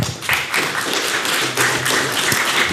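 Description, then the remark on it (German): An audience applauds to welcome a speaker who will present on music and musical notes: a dense, steady wash of many hands clapping at once, holding a fairly even loudness for the whole stretch with no voices on top. “Ja, Applaus für Benjamin.”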